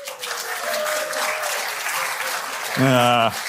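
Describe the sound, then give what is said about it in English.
A crowd claps steadily in a dense, even patter of many hands, with a brief vocal sound or cheer rising near the end. “The audience broke out in spontaneous applause.”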